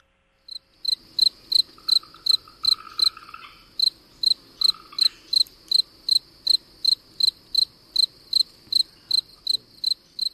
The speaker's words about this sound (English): Spring Field Cricket, Gryllus velitus.